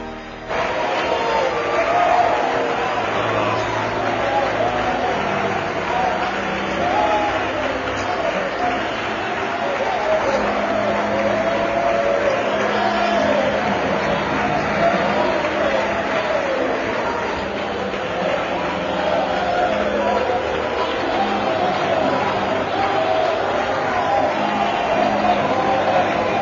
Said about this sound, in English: Praise God, church. It's certainly good to hear you shouting and worshiping and praising the Lord. Thank God. Thank the Lord.